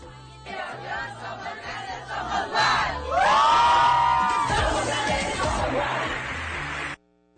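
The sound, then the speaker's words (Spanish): A large group of young people entering the Universidad Autónoma de Sinaloa (UAS) shouts the university's battle cry in unison, a rhythmic chant building to a loud, sustained collective yell before cutting off abruptly. “Esa es la emoción de los jóvenes por ingresar a la Universidad Autónoma de Sinaloa. Ya se aprendieron el grito de batalla.”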